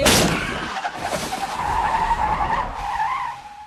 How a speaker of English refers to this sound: They're having a conversation and laughing, and then all of a sudden a deer hits the front of the car.